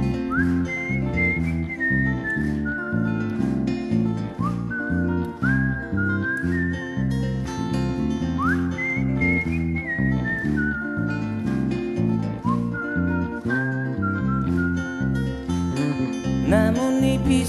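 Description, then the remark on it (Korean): A bright whistled melody glides and swoops over a steady band accompaniment, carrying the tune for the whole stretch with no singing. “휘파람 불며 걷다가 너를 생각해.”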